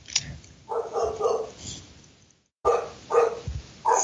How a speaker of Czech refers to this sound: Máš nějakýho pejska? Nějaký hafuša od sousedů, no, se snaží.